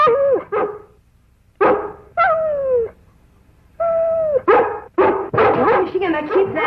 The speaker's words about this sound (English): Well, I just thought if we went over to see what she was barking about and...